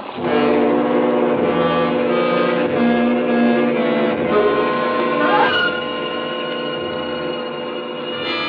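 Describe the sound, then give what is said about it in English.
A patrol boat's engine drones steadily and loudly on a river as the boat searches along both banks, a continuous rumbling hum with a brief pitch wobble midway, easing slightly quieter over the last few seconds, with no voices. “The other patrol boats have been covering the coast on each side, but can't report anything.”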